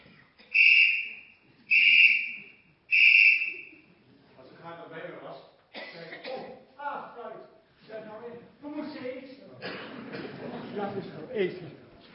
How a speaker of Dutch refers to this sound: Toen we daar ongeveer een aantal dagen op de camping waren en de mensen ongeveer wisten wie wij waren, toen de fluit weer floot, toen wist de hele camping dus